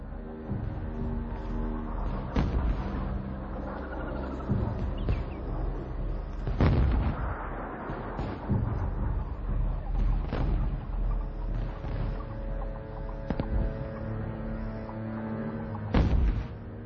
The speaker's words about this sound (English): An A-6 flying in the area responded to his request immediately. The fighter jet pounded the enemy invasion force with 500-pound Mark 82s. Norris and his men heard the bombardment from 2 miles away.